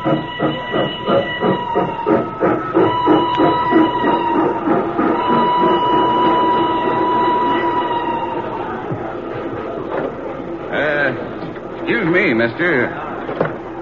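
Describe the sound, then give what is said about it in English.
A steam train in 1855, a day out on a trip from New York to Chicago, rolls along steadily with a rhythmic chugging and clatter and sustained tonal hum, a loud, continuous rumble that thins out toward the end as other faint sounds come through. “The train was barely a day out when...”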